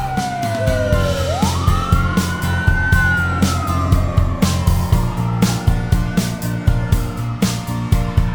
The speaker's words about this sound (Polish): Kierowca uruchomił koguty oraz syreny.